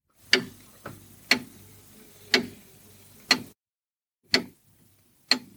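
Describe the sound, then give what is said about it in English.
A grandfather clock built by John Christian of Aylsham in Norfolk in 1777 ticks steadily in the hallway of a home on High Ash Farm in Norfolk, each sharp tick about a second apart, fairly loud, with a faint low hum underneath and no one speaking. “The old grandfather clock in my hallway, built by John Christian of Aylsham in Norfolk in 1777, is ticking away, telling the time.”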